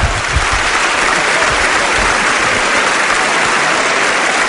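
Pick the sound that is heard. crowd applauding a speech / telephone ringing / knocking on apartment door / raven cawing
crowd applauding a speech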